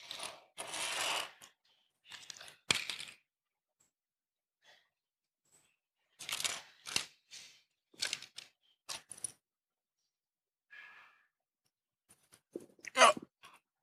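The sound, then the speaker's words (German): Adhesive tape being pulled off a roll and a small piece torn off, several rasping bursts separated by quiet pauses, with small handling clicks and no talking. “Dann nehmen wir uns unser Klebeband, ein Stückchen.”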